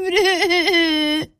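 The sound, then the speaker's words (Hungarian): A voice acts out loud, wailing sobs: one sustained, quavering cry with a wavering pitch that breaks off abruptly, followed by a brief catch of breath. “Annyira sírt, annyira zokogott”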